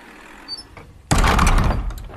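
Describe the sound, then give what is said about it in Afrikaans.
Large warehouse doors are shut by police with a sudden loud crash, followed by a heavy rattling rumble that lingers for about a second after a quiet lead-in. “Toe die trok veilig in die pakhuis is, maak die polisie die deure toe.”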